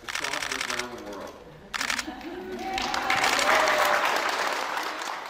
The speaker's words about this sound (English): You can hear like the clicking of the cameras, and she closes her eyes as the nurse administers the vaccine, and here's that moment.